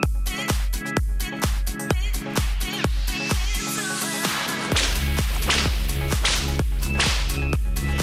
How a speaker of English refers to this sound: It's an occupational health and safety nightmare, I think, is what that is. Really? Yeah. Why is that? That's way too many whips.